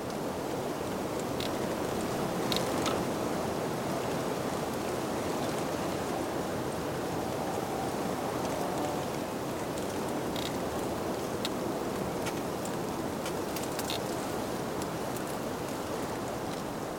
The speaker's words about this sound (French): La clameur du vent contre les haies.